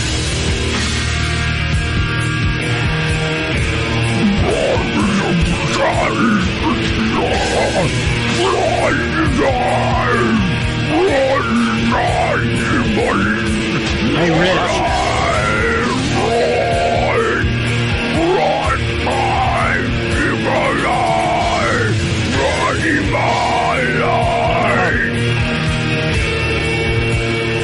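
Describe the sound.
Loud thrash metal blares continuously, with dense distorted guitars, pounding low end and harsh shouted vocals riding on top; a voice briefly calls out over the din.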